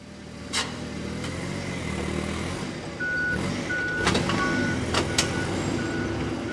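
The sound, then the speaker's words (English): A truck idles with a steady low rumble while a series of repeated high beeps sounds, and a few sharp clunks and thuds ring out as crates of apples are loaded aboard. No one speaks. “loads a last crate of apples onto a truck.”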